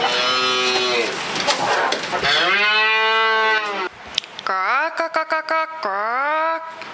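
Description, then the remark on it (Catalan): A cow moos loudly several times: two long, drawn-out lows, then a choppier, broken moo that stutters before trailing off. No talking. “Les propostes per al dia d'avui són: entrevista a la gallina blanca i a la vaca que riu.”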